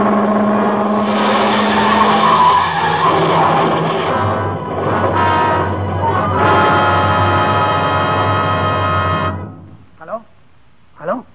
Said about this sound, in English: In my ears was the screeching of brakes, of tires taking a wild curve. Before my eyes was her foot on the gas pedal, pressing it down.